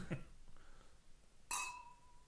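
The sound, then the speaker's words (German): Wine glasses holding Palatinum Rosé, a cuvée wine, clink together once in a toast, a bright strike that leaves a clear ringing tone hanging for a moment, with faint murmuring voices just before it. “Also Loss ist das Stichwort, lass uns mal anstoßen.”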